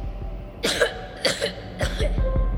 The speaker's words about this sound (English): He started coughing.